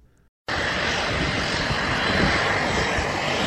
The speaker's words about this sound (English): A plane comes in for a landing at Delaware Coastal Airport in Georgetown, carrying very precious cargo. Nearly 90 dogs rescued from a troubled shelter in the Rio Grande Valley of Texas.